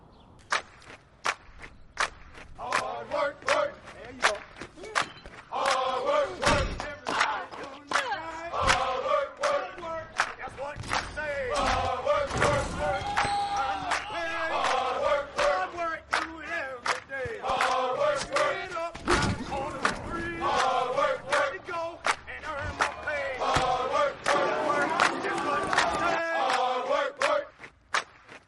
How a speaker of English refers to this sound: People are chanting and cheering on the train before you even get to the station. There's a sense of camaraderie because Philly loves their sports teams.